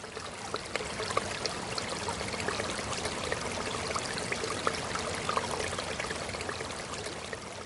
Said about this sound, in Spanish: ¡Caramba! Ese sonido es un sonido de un río. ¡Ay, cómo me trae recuerdos!